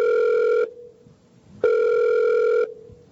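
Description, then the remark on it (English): A telephone rings twice in a steady electronic tone, one short burst followed by a longer one after a brief pause. It is loud, with no voices. “Gets a pretty strange phone calls these days.”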